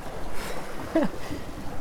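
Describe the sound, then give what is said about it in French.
Steady wind rushes and rumbles around a boat on open water, a continuous, moderately loud noise with one brief faint creak partway through. “Non, mais c'est vrai, il y a le pilote, il y a du vent.”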